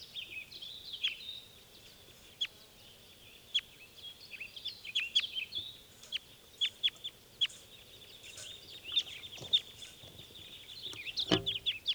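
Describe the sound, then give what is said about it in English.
Wild birds taking off: scattered sharp chirps and clicks over a steady high hiss, ending in a louder flurry of fluttering bursts. No one speaks. “And those were the wild birds taking off.”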